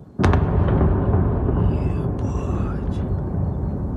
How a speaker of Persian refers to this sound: ساکنان اودسا یک شنبه با صدای انفجار از خواب بیدار شدند.